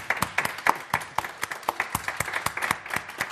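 A small audience applauds, a moderate patter of sharp, uneven handclaps lasting a few seconds with no one speaking over it.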